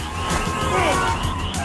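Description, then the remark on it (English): A police siren wails over the loud, steady roar of speeding car engines in a car chase: a driver floors it, turns left, and is followed by police through an intersection. “Paul floors it. He turns left. Regina follows through an intersection.”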